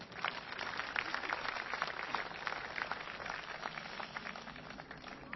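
Audience applause: a steady wash of many hands clapping, dense crackling bursts sustained evenly throughout the few seconds, fairly soft overall with no voices over it.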